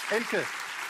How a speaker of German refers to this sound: Das Publikum applaudiert.